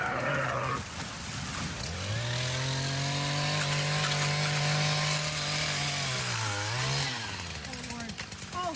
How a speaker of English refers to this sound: They got into an antler fight, one of those, and couldn't get separated. So he made some calls. One of his neighbors showed up to help, including a gas-powered pole saw to cut part of an antler.